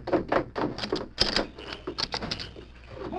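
A back door bolt being worked loose: a quick series of metallic clicks and rattles, with one sharper clack partway through, then lighter scraping as it slides free.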